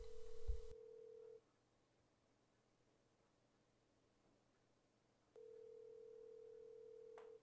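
A phone call is placed to a woman at a house: a burst of noisy dialing, then a steady ringback tone that pauses for several seconds and resumes with a click before ending. No one speaks.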